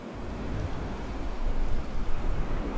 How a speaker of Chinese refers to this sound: 我没词儿了，因为我觉得海就很漂亮。 那我们就让他们听会海浪声，听40分钟，这期结束。